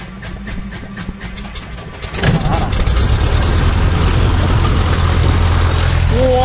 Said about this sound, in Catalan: Bé, amb això el que estic fent és posar-li benzina al motor, vale? Per poder-ho posar en marxa. I ara posarem en marxa. Farà una mica de soroll.